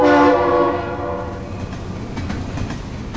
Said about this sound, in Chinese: TH999 次列车像往常一样载着一位身价上千万的大富翁在铁路上飞驰着。